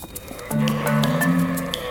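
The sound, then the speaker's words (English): A flock of sheep bleat together in a drawn-out, overlapping chorus that swells after a brief pause and holds for over a second, moderately loud, with no talking. “Their chatter was soon drowned out by the bleating of a flock of sheep.”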